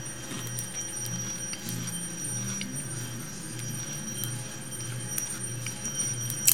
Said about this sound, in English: Hear that bell? Young Mexican friend of mine, he pushes this little ice cream thing and he sells popsicles, ice cream sandwiches.